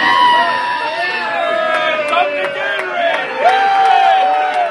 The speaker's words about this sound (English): In case you can't tell, that cheering as the clock ran out was dripping with sarcasm. One bar patron proclaimed the Lions a loser powerhouse.